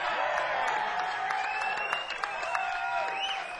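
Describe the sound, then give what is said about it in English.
An evening concert audience applauding steadily, a dense wash of clapping that holds at an even loudness throughout, with some high whoops and cheers rising above it. “Let's see how much you're clapping.”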